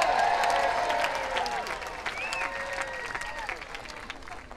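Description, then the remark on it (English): A large festival crowd at Folks Fest cheers and claps loudly and steadily, with scattered high whoops and shouts rising over dense applause, easing slightly toward the end. “Can we just have a big cheer for paper?”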